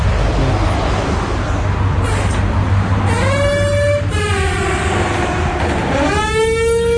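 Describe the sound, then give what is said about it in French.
The entrance door of a gym club lets out an odd, drawn-out metallic squeal in two high, wavering bursts, rather like train brakes, over a steady rumbling background noise. “C'est la porte d'entrée du club de gym. Hein. Faut pas se méprendre, même si elle fait un drôle de son.”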